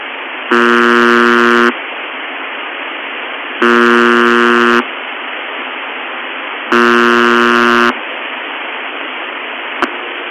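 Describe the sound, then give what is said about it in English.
A harsh, droning radio buzzer sounds continuously, surging to a louder, fuller tone three times in a steady cycle before dropping back to a quieter hum, with a brief click near the end. “there's several examples of the buzzer switching from loud to quiet, as we'll play now”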